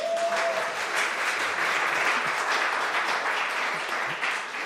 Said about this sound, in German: Sie haben Applaus verdient.